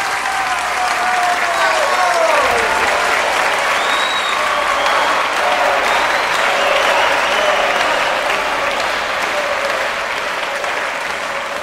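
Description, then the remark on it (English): A large audience applauds loudly and steadily after a performance, the clapping dense and continuous from start to finish, with shrill whistles and cheers rising above it early on. “Still stunned by what it had just experienced, the audience was jolted back into reality by the sound of a lone, sustained clap, followed by a few sparsely isolated claps, which quickly turned into cheers.”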